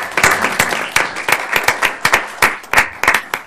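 A round of applause from a group at a council meeting, following a presentation about a school, with many hands clapping in quick, uneven bursts that stay fairly loud throughout, without any voices standing out.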